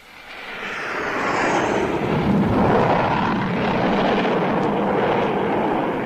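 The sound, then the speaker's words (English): A low aircraft traveling fast roars overhead as it approaches to land, its engine noise swelling quickly to a loud, broad rumble and holding steady as it passes over, with no voices present. “Number two was pretty low and traveling fast, too.”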